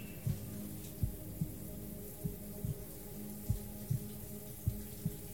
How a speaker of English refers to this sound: The shower's still on.